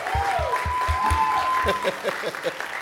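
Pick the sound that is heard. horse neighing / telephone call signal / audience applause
audience applause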